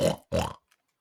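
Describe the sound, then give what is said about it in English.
A voice imitates a pig, giving two loud, rough snorts through the nose in quick succession, each about a quarter second long, followed by a tiny faint click. “Oh, you gotta go with the pig, because you really get that big old snort with your nose.”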